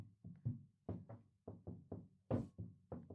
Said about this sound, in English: like tiny little hammering at the other side of the door. It does not shift or move at all.